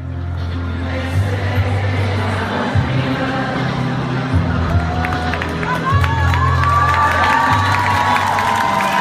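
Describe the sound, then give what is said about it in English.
A large crowd at a Sunday unity rally in France, where more than a million people marched, sings a slow melody together along with a song being played, held low notes swelling over a steady roar of cheering, with scattered shouts and sharp whistles rising in the second half. “The crowd began to sing along and cheer.”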